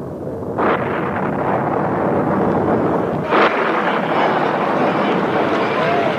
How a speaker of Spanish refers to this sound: Después se vio el resplandor del relámpago y se escuchó el retumbar del trueno. Pronto comenzaron a caer gruesas gotas de lluvia.